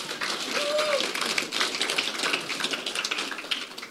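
A crowd applauds steadily for about four seconds as two people are called up, a dense, even patter of many hands clapping at moderate loudness, with a brief faint whistle early on and no talking.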